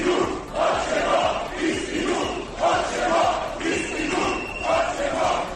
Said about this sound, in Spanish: Manifestación masiva también en las calles de la capital de Croacia, en Zagreb, con miles de personas protestando.